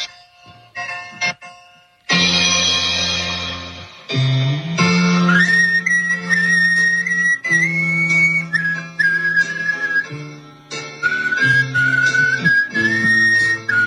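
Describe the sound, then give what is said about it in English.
A man whistles with his throat rather than his lips: a thin, high wavering melody over a low buzzing drone, held almost continuously for about fourteen seconds with brief breaks. It is loud, with no talking. “But he's not whistling with his lips. He's whistling with his throat.”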